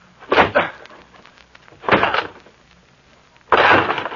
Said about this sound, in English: I'm going to break down the door.